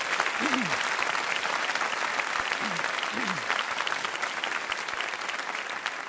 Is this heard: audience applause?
yes